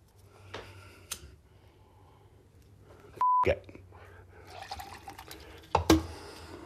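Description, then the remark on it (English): A drink spills onto a new phone: wet splashing and dripping, a brief electronic beep in the middle, then more sloshing and sharp clatters toward the end. “I just soaked my goddamn new phone.”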